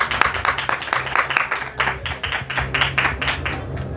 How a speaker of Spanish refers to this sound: Así que pido un gran aplauso para Manu Gutiérrez.